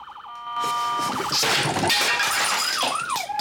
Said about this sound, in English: flees into the on-call room, then knocks the toy onto the floor.